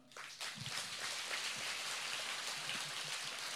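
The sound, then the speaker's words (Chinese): Sparse, scattered clapping from a small audience, a thin steady patter of individual claps with a few sharper ones standing out, lasting several seconds with no voices. “啊，我就知道很多人听不懂啊，所以掌声就是像今天早上的雨一样稀稀拉拉的。”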